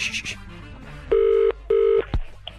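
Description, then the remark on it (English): An outgoing call's ringback tone heard down the line: two short, steady electronic ring bursts in quick succession, clear and moderately loud, followed by a click as the line picks up. “Oh, it's ringing.”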